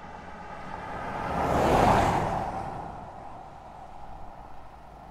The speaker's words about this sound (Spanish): Es mediodía en Pedro Juan Caballero, al norte de la región oriental del Paraguay. Un auto Datsun blanco transita por la avenida Rodríguez de Francia, también conocida como la Línea o Tierra de Nadie.